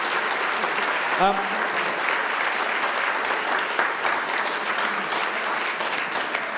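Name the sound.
audience applause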